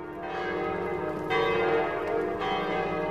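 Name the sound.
church bells ringing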